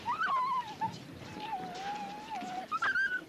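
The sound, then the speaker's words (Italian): A dog whimpers in thin, high-pitched whines that rise, dip and trail off, with a short break before a final rising whine. The sound is quiet, with no talking. “I cani no. Fanno chiasso, bisogna rinchiuderli.”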